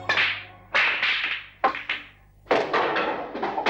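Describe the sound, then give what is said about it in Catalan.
A billiard break shot opening a game and potting three balls at once: a burst of sharp clacks as balls collide, several quick impacts in uneven clusters with brief ringing decays, fairly loud, with no voices. “Algú enceta una partida de billar i fica tres boles d'un sol cop.”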